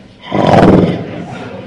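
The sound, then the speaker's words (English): A voice imitates a tiger's roar, one loud, rough growling burst that swells quickly and then trails off into a lower rumble. “And the tiger”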